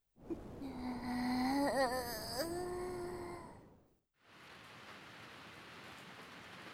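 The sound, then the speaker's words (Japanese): A steady, even hiss of rain falls for the last few seconds, coming in after a brief silence that follows a bright, wavering tonal sound at the start. No one speaks. “そんな中、人々の惨状を見かねたお狐様は、自らの力を使い、大地に雨を降らせました。”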